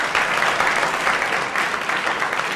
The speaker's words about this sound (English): I'm confident that the audience were applauding the emotion you put into that remark and not the content.